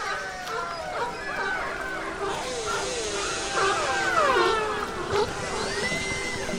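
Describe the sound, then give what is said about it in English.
Orca and sea lion calls overlap underwater: a dense chorus of rising and falling whistles and squeals over a steady watery hiss, continuous throughout and moderately loud. “From orcas and sea lions.”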